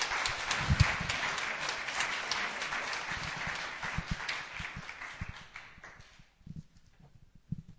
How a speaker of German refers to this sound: Wir geben einen Applaus und heißen unseren Bruder willkommen.